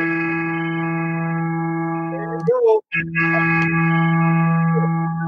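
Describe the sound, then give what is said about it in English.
A phone plays a steady, sustained low musical note, an E3, with a buzzy, harmonic-rich tone. It holds evenly for about five seconds, with a brief break and a short burst of other sound midway. “Can I play an E3 now, quickly?”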